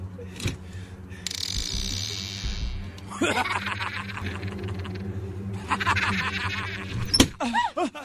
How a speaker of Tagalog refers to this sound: Biglang nagsara ng malakas ang pinto. Hindi ko na mabuksan ang pinto.